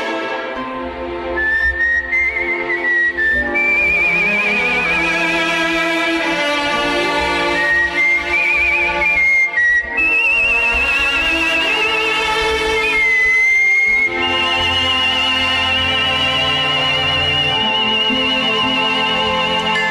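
A clear, bright whistled melody, performed by a whistler from Milwaukee, glides and sustains over a full instrumental backing in a vintage song recording, steady and prominent throughout with no voices talking.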